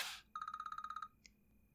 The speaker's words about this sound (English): Oh, is your phone ringing? Let me see who it is.